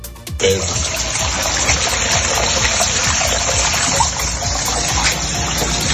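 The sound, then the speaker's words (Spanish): Floodwater being bailed out from inside houses by residents in Grazalema, in the Sierra de Cádiz, Spain, after a storm brought over 340 litres of rain per square metre: a loud, continuous rush of pouring and splashing water with low sloshing thuds underneath, starting abruptly and running steadily throughout. “Allí ya se han superado los 340 litros de agua por metro cuadrado, que es una barbaridad, y los vecinos ya han comenzado a achicar agua del interior de muchas de sus casas.”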